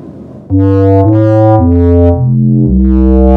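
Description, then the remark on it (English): Five sustained musical tones play one after another without pause on the dark side of the moon, loud and buzzy like a distorted synthesizer, the pitch stepping mostly downward with a low final note. No voices. “if everything's ready here on the dark side of the moon, play the five tones.”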